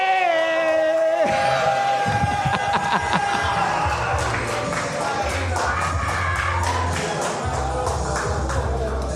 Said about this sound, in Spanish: ¡Este fuerte aplauso